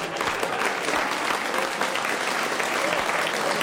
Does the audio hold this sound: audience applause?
yes